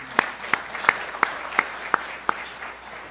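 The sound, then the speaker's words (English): Audience applause: a soft, steady wash of clapping with about seven sharp, evenly spaced claps standing out in a regular rhythm, with no voices. “None of these people actually wanted any applause or asked for it, but, you know, why not?”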